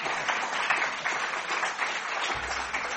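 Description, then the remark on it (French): An audience applauds a speaker steadily for a few seconds, a dense wash of many hands clapping at once with no pauses and no voices standing out. “Nous pouvons effectivement applaudir.”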